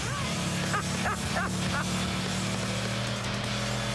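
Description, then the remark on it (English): A Shelby sports car engine drones steadily and loudly, heard from inside the cabin as it is driven hard on a race track, with a few brief vocal sounds rising over the rumble early on. “I've been in a lot of fast cars, but these Shelbys, they never cease to amaze me”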